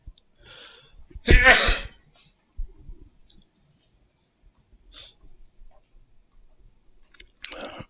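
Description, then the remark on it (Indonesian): A single loud nasal burst from a person with the flu, not a sneeze, preceded by a soft sniffling breath and followed by faint snuffles and small clicks; no one speaks. “Ini flu ya, bukan bersin.”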